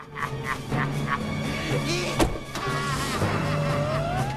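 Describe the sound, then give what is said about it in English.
A security service patrol car's engine hums steadily, a single sharp clunk like a door shutting cuts in midway, then the engine note climbs in pitch as the patrol car drives off. “He gets into a security service patrol car.”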